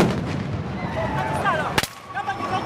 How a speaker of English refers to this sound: The sound of police firing tear gas at crowds supporting opposition candidate Kizza Besigye, who was briefly detained.